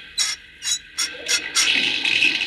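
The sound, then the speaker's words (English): Five quick, evenly spaced squeaky turns of a spigot, then a steady rush of water pouring through a water pipe into an engine boiler, with no talking. “Now the water will go into the engine boiler. Give that spigot a whirl,”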